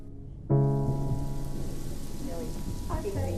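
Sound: rain falling at night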